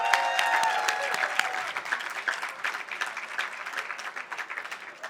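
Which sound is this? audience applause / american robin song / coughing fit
audience applause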